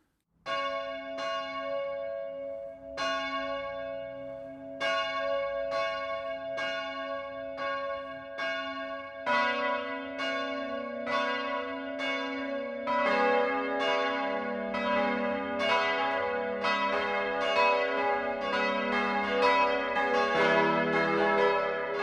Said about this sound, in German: Das Mittagsläuten kommt heute von der katholischen Pfarrkirche St. Peter und Paul im oberpfälzischen Dalkin.